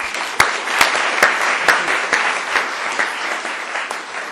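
Steady audience applause welcoming a speaker on near-death experiences, a dense wash of many hands clapping at once with a few sharper individual claps standing out at regular intervals, sustained throughout without any talking.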